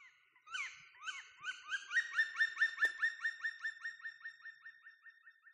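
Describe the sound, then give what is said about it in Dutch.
A black woodpecker gives a long, ringing series of loud, clear call notes, about twenty in a row, starting quickly and settling into a steady rhythm, heard alone. “Dat is een zwarte specht, zegt Bloemen.”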